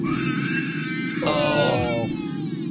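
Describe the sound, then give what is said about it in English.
A 5-year-old child screams loudly and continuously in high, strained bursts on a three-hour flight, sharpening into a shriller wail midway, over the steady low droning hum of the airplane cabin. “That's not even crying. That's screaming.”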